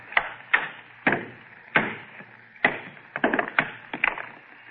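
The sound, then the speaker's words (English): A hammer strikes a stone, trying to break it along a fissure, again and again, about a dozen sharp, ringing cracks at an uneven pace that bunch closer together toward the end. The stone, a meteor that is almost solid metal, breaks clean in half. No voices are heard. “All I'm going to do is try and break it along this fissure. If you had a hammer”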